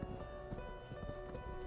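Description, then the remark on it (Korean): Slow, steady footsteps thud at a walking pace, low and muffled as if several people are coming from a distance, with a faint sustained hum in the background and no talking. “저벅, 저벅. 여러 사람의 발소리가 멀리서 들려왔다.”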